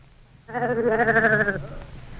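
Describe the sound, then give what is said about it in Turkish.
A single sheep bleats once, a wavering, nasal call lasting about a second with a trembling vibrato, clear against a quiet background. “Kaş o benim koyunum olaydı.”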